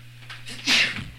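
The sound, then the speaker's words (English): A single sharp sneeze bursts out, a quick breathy intake followed by a loud hissing explosion that fades within a second over a low steady hum. “Bless you, my son.”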